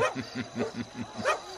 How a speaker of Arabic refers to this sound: أطلق الكلاب ولنواصل تتبع أثرهم.